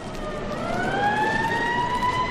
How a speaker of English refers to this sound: Uh-oh, here comes that trouble, only sooner than I expected. Look, Peter, those police cars are headed towards... Oh, wow!